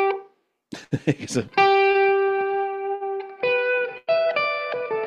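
An electric guitar, played through a combination of echo and modulation effects, plays a quick flurry of picked notes, then holds a long sustained note that rings on through an echo delay, followed by a few more shimmering, repeating phrases.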